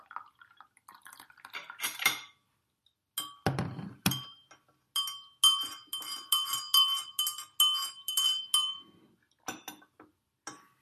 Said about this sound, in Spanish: Parecen las vacas. Que vienen las vacas. Que vienen las vacas.